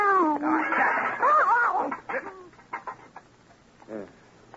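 A cat meows in a loud, drawn-out, wavering yowl, followed by a few shorter, softer cries trailing off over the next couple of seconds.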